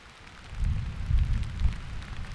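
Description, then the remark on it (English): Thunder rumbles low and heavy through steady rainfall in the Apalachicola National Forest on a mid-May late afternoon, swelling in rolling waves before easing slightly, with a soft hiss of rain beneath. “We arrive in the National Forest in late afternoon, in the midst of a thunder shower.”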